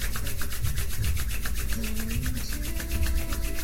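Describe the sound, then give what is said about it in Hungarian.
Hands rub briskly together to warm them, in a steady back-and-forth rhythm, each stroke a soft, dry, hissing swish, repeated many times over a few seconds with no talking. “Ha nem elég forró a kezed, dörzsöld meg.”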